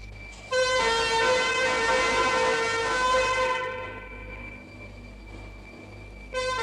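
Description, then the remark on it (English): Fire engine sirens blare loudly and steadily for a few seconds as firemen race their two appliances from the Brentwood fire station through the streets to a call, then fade away before sounding again briefly at the end, over a low rumble of engine noise. “as the fire station's firemen race to their two appliances to begin their race through the streets, sirens blaring, to deal with the call.”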